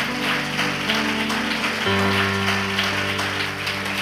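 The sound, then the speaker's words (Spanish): Loud, sustained applause to God during a worship service, a dense crackle of clapping over steady held musical chords that shift to a lower harmony about halfway through. “fuerte aplauso a nuestro Dios.”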